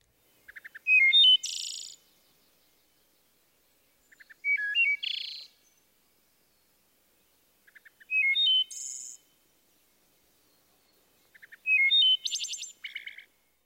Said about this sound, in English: The final phrase, a series of fast fluttered notes, sometimes sounding like a metallic trill, is also helpful in distinguishing the wood thrush.